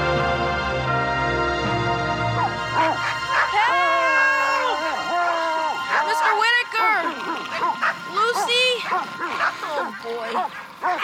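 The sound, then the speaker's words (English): Several dogs bark and yelp loudly below a tree, their overlapping, excited calls rising into whiny, howl-like tones and continuing steadily for several seconds. “Thank you, Lord, for not giving dogs the ability to climb trees.”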